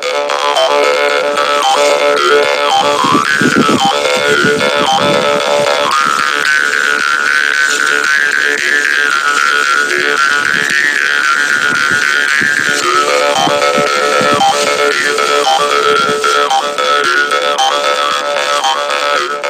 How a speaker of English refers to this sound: Karinding was made by the ancestors to ward off the past in the past. Because of that, the tones in karinding instrument did not give a name. After a long time, finally karinding is played as instrument to entertain farmers who are waiting their land